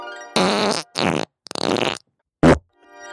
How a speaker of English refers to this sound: could bring both farts back just right now, just so we could hear him again.